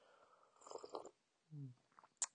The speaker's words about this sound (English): Oh, I forgot to mention, if you hear that noise, It's all right. I just had a bit of green tea. So don't worry about that. And you might go, why is he slurping? It sounds disgusting. Well, I don't think it sounds disgusting.